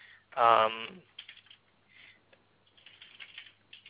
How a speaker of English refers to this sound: I'm just typing out an example in here just to make sure.